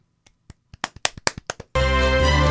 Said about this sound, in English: Okay, why don't you clap for him?